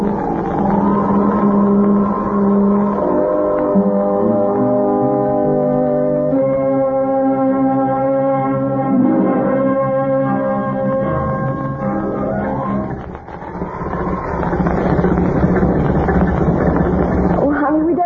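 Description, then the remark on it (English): An old, battered little car with worn, smooth tires drives along a highway through the Kansas prairie on a night of pelting rain. Its engine drones and rumbles with a wavering pitch beneath a steady wash of heavy rain, the noise briefly dipping near the end before the roar returns. “You'll see a little automobile that's as old and battered looking as the man and woman in it are young and fresh looking.”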